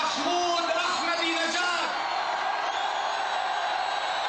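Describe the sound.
A large crowd of thousands at a rally for President Ahmadinejad in Binti Jbeil, a few miles from Israel's border, cheers and shouts loudly, a dense roar of many voices with whoops and yells rising early on before settling into a steady, sustained din.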